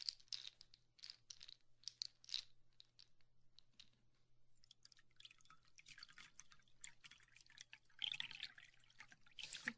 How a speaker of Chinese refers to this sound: 我呢，去给你倒一杯水哦，因为我也有点口渴了，我也要去喝点水哦，渴死了。你躺着休息一会儿吧，乖。等我去倒水。